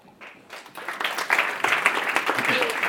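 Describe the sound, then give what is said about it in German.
An audience bursts into applause for Markus Dimpfel, head of corporate development at Mediengruppe RTL Deutschland, as he is introduced. The applause swells within the first second into a dense, steady patter of many hands clapping and holds loud and even to the end. “Und Applaus für Markus Dimpfel, den Bereichsleiter Unternehmensentwicklung der Mediengruppe RTL Deutschland.”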